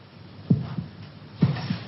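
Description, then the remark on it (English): A heart beats slowly and steadily, two double-thump lub-dub beats, low and muffled as if heard through a chest, with a faint hum between them and no voices. “Can you hear your heart beating?”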